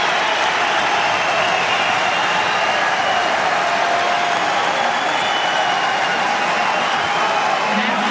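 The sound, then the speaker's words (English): A large tennis crowd applauds and cheers in a dense, steady roar after a Djokovic backhand winner in the fourth set, as he waves his arms to get them going; clapping blends into a broad wash of noise at a loud level with no clear pauses. “And he's now getting the crowd going, waving his arms around.”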